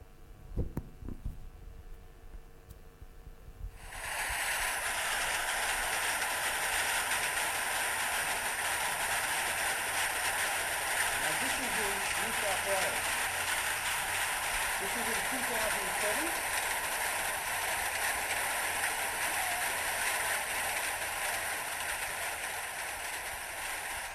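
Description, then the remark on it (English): Hailstones a bit smaller than golf balls pound a roof, shooting off and landing, in a dense, hissing roar that bursts in after a few quiet seconds and stays loud and steady, with faint murmuring voices underneath. “Just to get some footage, you can see the sorts of size of the hailstones hitting his roof and shooting off and landing.”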